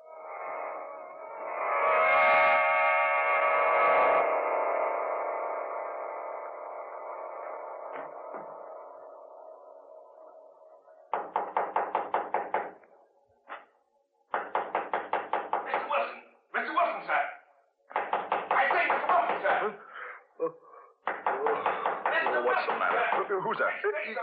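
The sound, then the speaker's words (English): Knocking on a door at midnight comes in several insistent bursts of raps, following a sustained, slowly fading musical tone at the start. “Who's there? Me, sir. Isaac Newton, sir. Well, come in and stop that noise.”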